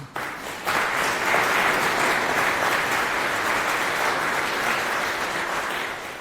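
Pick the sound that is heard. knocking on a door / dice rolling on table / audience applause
audience applause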